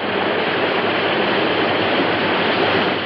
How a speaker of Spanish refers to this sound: En medio de la noche estalla una tormenta. Llueve torrencialmente.